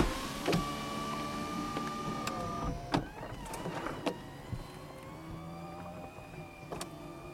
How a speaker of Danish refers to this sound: Ja, jeg har ikke taget tid, men det skulle efter sigende tage omkring 10 sekunder at få kalæschen væk i den bil, som jeg sidder bag rettet i nu.